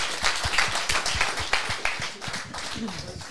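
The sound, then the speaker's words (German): An audience claps in a dense, steady burst of applause that fills the whole stretch and eases slightly toward the end, where a voice briefly rises over the clapping. “ja super, das ist dein Applaus”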